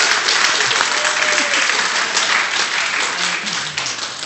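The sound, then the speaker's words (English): Steady, dense applause from an audience, a broad crackle of many hands clapping at a loud, even level for several seconds without any talking over it; a round of applause for the speaker's wife. “I think we ought to give her a round of applause right now.”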